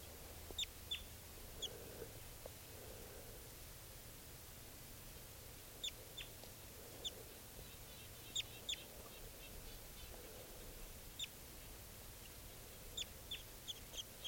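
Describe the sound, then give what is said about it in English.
A juvenile yellow wild bird, about 15 feet up, gives short, high-pitched chirps, often in quick pairs, scattered irregularly over a steady low hum. The calls are faint and no one speaks. “Pointed at the wild bird. It's about 15 feet up.”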